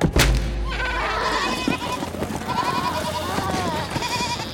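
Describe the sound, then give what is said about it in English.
Several spooked goats bleat loudly, their wavering cries overlapping in a continuous, agitated chorus after a brief thump at the start. “The spooked goats ran past Zagreus.”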